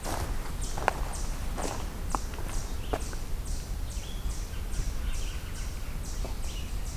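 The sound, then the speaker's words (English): Steady, rapid series of high chipping calls from chipmunks repeating evenly throughout, with a few sharp clicks and faint bird notes over soft outdoor background noise. “It's a lot of vocalizing chipmunks right now.”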